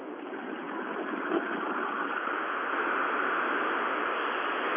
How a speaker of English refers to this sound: Okay, now the whole window is open. You can hear the wind noise and the engine noise on the highway.